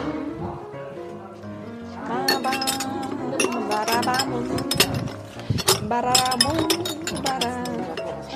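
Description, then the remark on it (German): Glass jars clink and rattle against each other, a busy run of bright knocks and rings throughout, with a voice sounding faintly underneath. “Und ich bete, dass meine Gläser nicht schon wieder auseinanderfallen.”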